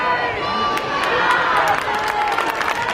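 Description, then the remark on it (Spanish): A large crowd in Valencia cheers and claps continuously as it receives the King and Queen of Spain, a dense wash of voices and scattered hand claps, with occasional higher shouts rising above the steady roar. “Los reyes, el rey y la reina, han sido recibidos entre aplausos y vítores.”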